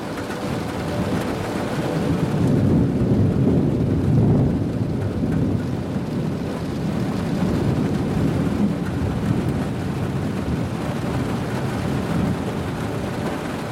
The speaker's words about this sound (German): Ein leises Donnergrollen in der Ferne vermischt sich mit dem gleichmäßigen Klopfen des Regens.